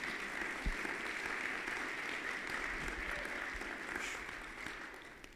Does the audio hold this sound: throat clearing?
no